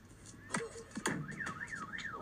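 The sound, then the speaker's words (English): A car alarm, set off by a tennis ball, wails with its tone sweeping up and down in a repeating warble after a few sharp chirps and bursts at the start, loud and steady with no talking. “How does a tennis ball set off a car alarm?”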